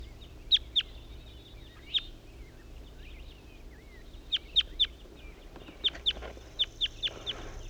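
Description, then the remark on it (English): A wild male bird sings a series of sharp, high-pitched chirps, about a dozen notes in short clusters with pauses between, over a low steady background hum and no talking. “Wild male bird that was just singing.”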